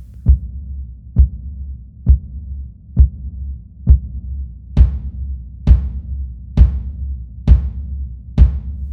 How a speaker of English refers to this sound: We took a few interesting twists with the drums. There's a subby woolly kick that comes in from the start until verse 2, when a second brighter kick takes over.